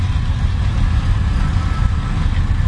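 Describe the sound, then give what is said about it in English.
The engine of a 1949 Farmall Cub tractor fitted with a side mirror runs steadily as it is driven at a tractor show: a continuous low, throbbing rumble with a faint rhythmic chug and no voices. “1949 Cub, and it's driven by Dave Carroll. And you're looking good. The tractor.”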